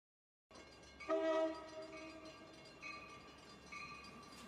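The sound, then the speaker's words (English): A train horn blares loudly in a sustained chord, then sounds again in shorter, softer blasts over the steady rumble and clatter of a train rolling along the tracks. “You are aboard the train to hell, stopping at Swindon, Walter Orton, Swaddling Coat, Hull, Rotten Eggs, and finally, hell.”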